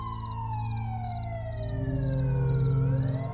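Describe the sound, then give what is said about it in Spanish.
An ambulance siren wails in a long downward glide before turning upward again, growing slightly louder as it approaches a road accident scene, over a steady low rumble of traffic or engine noise. “La ambulancia llega en el siguiente minuto.”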